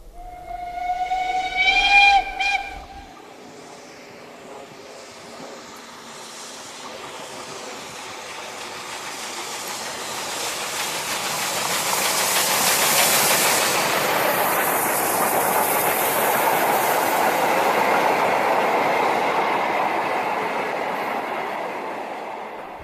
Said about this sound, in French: Un train à vapeur est passé.